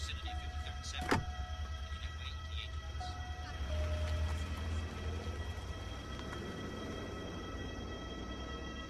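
car driving off

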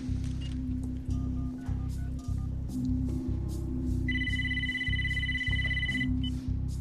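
telephone ringing

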